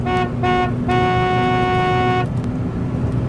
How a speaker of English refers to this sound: And she was, I mean, so close to me, I couldn't see her headlights. And then the next thing you know, you started hearing the horn beeping.